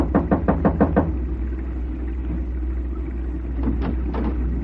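A quick run of about six firm knocks on the closed door of a small roadside shed with gasoline pumps in front, a pause, then a few more knocks, all over a steady low rumble in the background.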